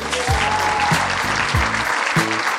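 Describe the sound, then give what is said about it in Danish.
A live audience applauds steadily for an introduced guest, a dense wash of clapping that stays loud throughout, with a repeating low thumping beat running underneath. “Giv en stor hånd”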